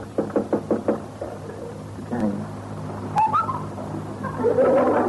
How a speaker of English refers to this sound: Knock on his door.